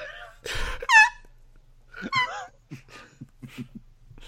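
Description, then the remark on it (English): A voice imitates squeaky, held-in crying: a burst of breathy noise, then high, wavering squeaks and whimpers, followed by a string of short, strained, choked pulses. “That's how I imagine he cries now. He squeaks.”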